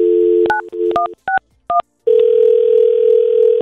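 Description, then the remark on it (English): A steady telephone dial tone hums, broken by a quick series of touch-tone beeps as a man's phone number is punched in for an outgoing call, then a continuous ringing-line tone takes over, clear with no voices. “we do have his phone number here, Nicole, and let's call him”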